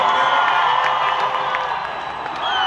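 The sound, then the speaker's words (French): A large festive crowd of Armenians celebrating victory and independence on a historic square cheers and shouts steadily, with folk groups from different provinces moving through it: a dense, loud roar of many voices with scattered whoops and high calls rising above it, continuous for the whole stretch. “Des groupes folkloriques venus de différentes provinces sillonnent la foule.”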